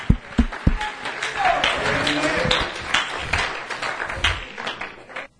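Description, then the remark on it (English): An audience claps their hands unto the Lord at an evening service, a dense, steady patter of many claps that opens with a few sharp loud hits and continues for several seconds, with faint voices calling out underneath. “Oh, somebody clap their hands unto the Lord tonight.”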